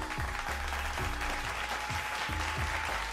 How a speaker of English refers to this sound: Listen, this was beautiful. I give you a soul clap.